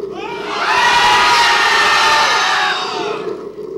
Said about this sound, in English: I know I said it was the last one, but I can't stop until I get a Harvard scream. Half. Again, a Harvard scream.